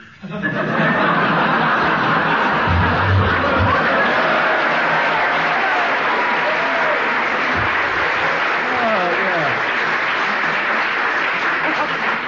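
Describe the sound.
A studio audience bursts into sustained applause and laughter, a dense steady wash of clapping that holds loud for about twelve seconds, with scattered chuckles and voices mixed in.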